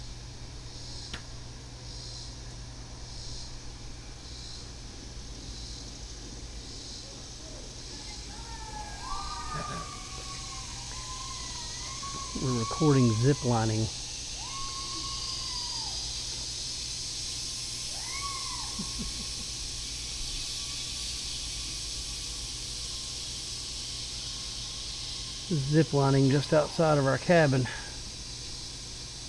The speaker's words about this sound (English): You can't hear nothing for the cicadas. They're so dang loud. It's cool how they go to from left to right, though. Yeah, they're coming off that hill on your left.